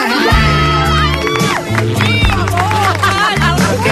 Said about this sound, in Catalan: Què esteu aplaudint? Què aplaudiu?